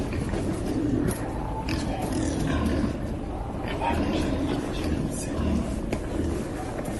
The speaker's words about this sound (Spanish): Sí, lo que oyes es lo que parece, son los gruñidos de los jabalíes por la ciudad vieja. Varios vídeos dan fe del recorrido de los animales por la parte noble de la ciudad.